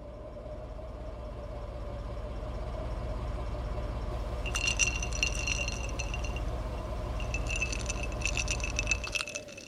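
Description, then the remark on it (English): Ice cubes clink and rattle in a bright, busy cascade out of the tailpipe of a stark white Cadillac, over a steady low engine rumble. The sound starts partway through and comes in two close bursts before the idling cuts out. “Instead of exhaust, ice cubes came out the tailpipe.”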